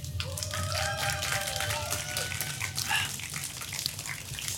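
A crowd claps steadily and loudly for several seconds, the dense patter of many hands mixed with a few whistles and cheers rising above it.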